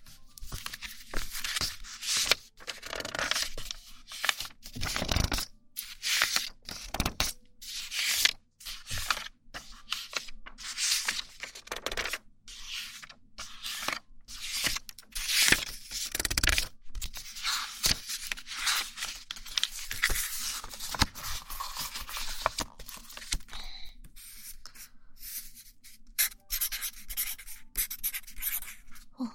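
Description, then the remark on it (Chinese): A small double-ended marker pen squeaks and scratches across paper in quick strokes as words are written, sometimes in short bursts and sometimes in longer sweeps, steady and continuous with no voices. “记号笔的质感好听，你写了一个报告”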